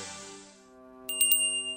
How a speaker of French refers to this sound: Cloche. Cloche. Tibétaine.